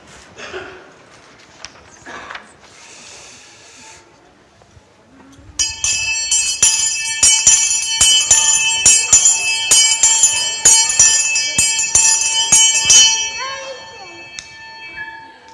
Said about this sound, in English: Do you like my bell? I had thought about rushing out, ringing it and shouting fire as an illustration of what it might feel like to be alarmed.